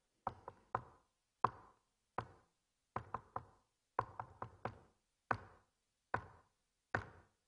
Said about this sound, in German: Und was sie dann gemacht haben dort, und könnte ich das hier klopfen, weil ich habe mir den Morsecode hier aufgeschrieben. Sie haben einen Morsecode geklopft.